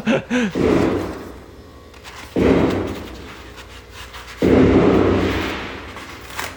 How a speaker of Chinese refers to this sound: 这是枪声吗？ 这个应该是炮声， 鞭炮声。 对， 昨天晚上我可是有一点点小紧张， 因为你听它是一下一下的，它是枪的声音是那种叭叭叭叭，它会那种 它有对射的那种感觉，你一枪我一枪那种感觉。